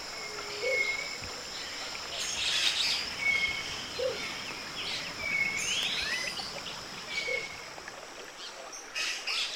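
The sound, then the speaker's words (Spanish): Several tropical forest birds, including cinnamon-backed thrushes whistling and a cinnamon-crowned motmot calling, call and whistle over a steady insect hum, with repeated clear tonal whistles and a few low hooting notes spaced through the scene. “podemos encontrarla en la conversación entre agua y piedra, en el bien te veo de los luises hablando desde la selva y desde el palo mulato, en los silbidos pensativos de los mirlos dorso canela, las llamadas del momoto corona canela, el pájaro burro.”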